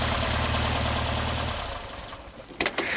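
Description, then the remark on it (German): The engine of Bob's yellow Volkswagen Beetle hums steadily with a low, throbbing rumble as the car arrives onto a beach, then fades and falls quiet, followed by a few short knocks and clunks at the end. “Als er das Wasser einige Minuten später aufgoss, vernahm er ein leises Brummen. Bob kam zurück.”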